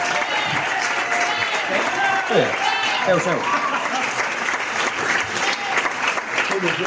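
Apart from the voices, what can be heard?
audience applause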